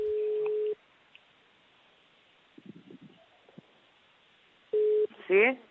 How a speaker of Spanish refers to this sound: Bueno, estamos marcando el teléfono de tu padre,